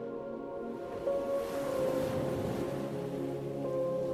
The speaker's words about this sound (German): Und während du jetzt hier so liegst und das Meeresrauschen seine entspannende Wirkung auf dein gesamtes Wesen entfaltet